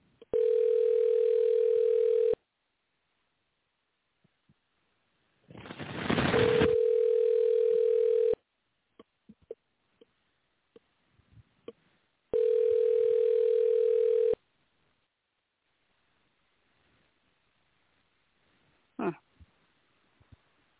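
An outgoing phone call to a doctor rings out, a steady ringback tone sounding three times in long two-second bursts separated by pauses, with faint clicks and a brief rush of noise over the second ring.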